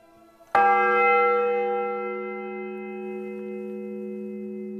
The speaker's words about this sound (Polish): To najstarszy wciąż bijący dzwon w Polsce. Został ufundowany w 1318 roku przez ojca Przedbora.